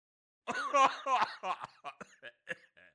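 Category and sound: human body sound, coughing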